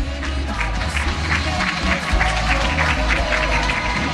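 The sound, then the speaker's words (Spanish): A large audience at a press conference applauds loudly and steadily for Esteban Duch, who has just come off stage, a dense wash of clapping with some cheering from the crowd, sustained throughout without a break. “Un fuerte aplauso, por favor, para Esteban Duch.”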